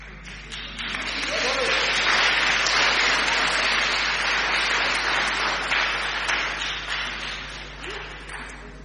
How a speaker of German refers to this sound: An den Applaus hatte ich gerade nicht gedacht, aber danke.